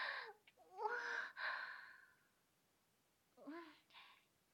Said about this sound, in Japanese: さっきまで本運んだりしてたから、それでちょっと息切れしてるかも。